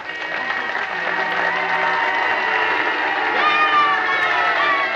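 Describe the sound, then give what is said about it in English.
A large crowd of fans in Oskaloosa in 1961 cheers and shouts continuously for about five seconds to show their respect. Sustained car horn blasts blend into the din, which stays loud and steady throughout. “A year later, fans in Oskaloosa showed their respect by cheering and honking their horns.”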